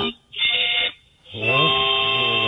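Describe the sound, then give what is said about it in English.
A harmonica played badly: a short, buzzy reedy chord, a gap, then a longer honking blast whose pitch wobbles and bends unsteadily. It is fairly loud and no one speaks. “As another one of the worst harmonicas I've ever heard.”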